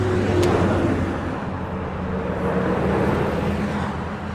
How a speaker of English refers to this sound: They're right here on PCH, not even a quarter mile away, and the trucks are going by all day long.